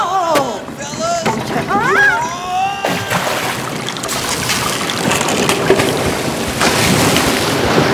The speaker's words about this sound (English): It might rain. If this wind and rain keeps up, the water will get into the base.